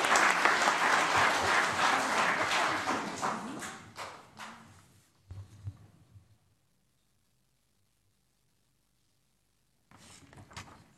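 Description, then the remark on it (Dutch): Loud, dense applause from a crowd after a child promises to commit to all children in the municipality fills the first four seconds, then thins to scattered claps and fades out; after a near-silent gap, a brief burst of clapping returns at the end. “Een daverend applaus.”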